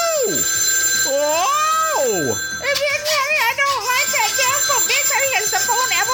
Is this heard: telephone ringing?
yes